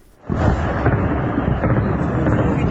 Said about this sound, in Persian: زبانه‌های آتش و شلیک ضد هوایی، تصاویری که در شبکه‌های اجتماعی از حملات هوایی گسترده بامداد جمعه در حومه شهر حلب سوریه منتشر شده است. حملاتی که از آن به عنوان یکی از گسترده‌ترین‌ها در نوع خود نام برده می‌شود.